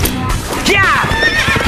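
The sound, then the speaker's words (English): A horse lets out a loud, quavering whinny that rises and falls as a rider swings onto its back, while hooves clip-clop steadily underneath, continuing after the neigh fades. “He spun, grasping at his remaining knives as he swung into the back of the second horse.”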